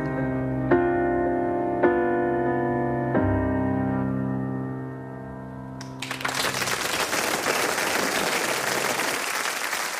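A few sustained piano chords ring out and fade, then a crowd breaks into loud, steady applause that continues for several seconds with no talking.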